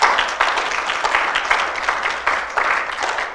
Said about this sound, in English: Now I've got, yes, that's great. You can clap. Praise the Lord.